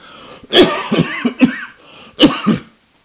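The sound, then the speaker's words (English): A cluster of fairly loud coughs: a rapid burst of three or four harsh hacks, a brief pause, then two more coughs, with no talking. “The wizard can cure eyes, but has a little trouble on the coughs.”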